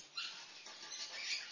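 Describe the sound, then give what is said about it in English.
A mouse squeaks in high, thin chatters continuously through a short stretch, with a few sharper chirps standing out near the end. It is moderately loud, with no talking. “Ooh, a mouse.”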